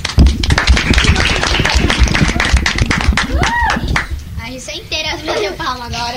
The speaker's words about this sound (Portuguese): Inteira, as minhas palmas agora.